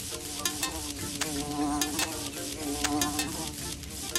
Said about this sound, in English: Oh, there's a wasp right there.